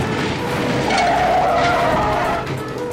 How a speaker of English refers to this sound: The driver sees two police cars coming at him. He panics, and it happens. The teens slam into a stalled car and ricochet off another.